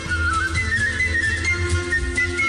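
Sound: person whistling a melody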